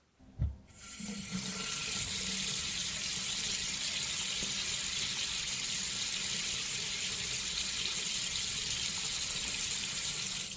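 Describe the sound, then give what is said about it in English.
A faint knock as the bath taps open, then water gushes out in a steady, hissing rush, run to a pleasant, even temperature, unbroken to the end. No one speaks. “Carrie ran the water to a pleasant, even temperature.”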